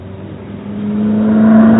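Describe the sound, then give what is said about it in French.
A car engine revs and rises in pitch as the vehicle approaches, growing steadily louder over a couple of seconds with a steady droning hum and no voices. “Heureusement qu'il n'y a pas de voiture ici.”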